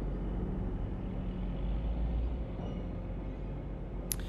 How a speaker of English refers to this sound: This road train is probably going off to cart nickel ore from the Savannah mine, the same mine that paid for me to be here and play music with the young Gidja.